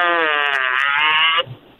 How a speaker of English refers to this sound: I got a fart.